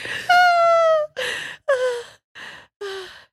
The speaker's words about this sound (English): What the fuck were you breathing like that? Because I don't want to get the hiccups.